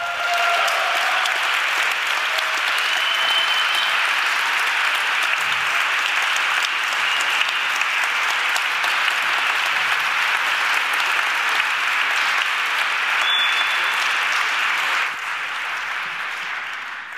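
Sustained audience applause, a dense wash of many hands clapping at steady loudness for the whole stretch, easing slightly near the end, with a few faint cheers mixed in.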